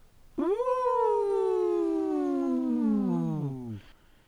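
A single long, mournful wolf howl rises quickly, then holds and slowly slides downward for about three seconds before breaking off. It is loud, with no talking.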